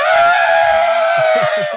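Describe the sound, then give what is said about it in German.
A person imitates an elephant's trumpet: a loud, sustained, brassy blare held steady for about two seconds, rich in high overtones, with faint lower sounds underneath. “mach noch deinen Elefanten.”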